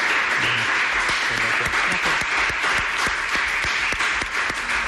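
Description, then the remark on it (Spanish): A crowd applauds steadily, dense overlapping claps filling the whole stretch at a loud, even level, with a few faint voices mixed underneath. “Pues un fuerte aplauso, ¿no?”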